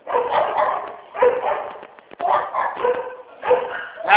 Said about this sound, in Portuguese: Gente, cachorro ficou maluco.